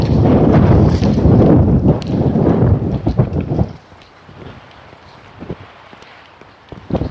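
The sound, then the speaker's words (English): Strong, cold, sharp wind on a sunny morning at a temperature of 52 buffets the microphone in loud, rumbling gusts for several seconds, then drops to a softer outdoor hiss with faint crunching, like footsteps, before a brief gust returns. “It's windy. The wind is cold. The wind is sharp this morning.”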